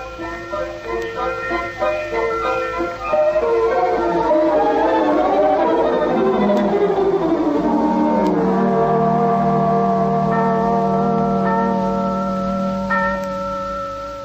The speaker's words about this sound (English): what are those bells?